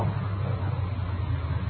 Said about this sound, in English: The car coming up the road toward us, sounds like.